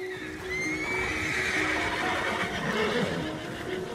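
A horse lets out a loud, drawn-out whinny lasting several seconds, its pitch wavering as it rises and falls, with a faint rhythmic clopping of hooves underneath and no voices.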